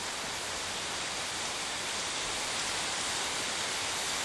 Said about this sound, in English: Here we have the river, one of the main rivers here in the south, the Kobri.